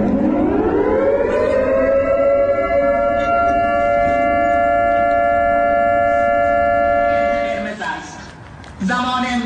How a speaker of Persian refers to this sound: آژیری که در شاهین شهر اصفهان هم به صدا در آمد.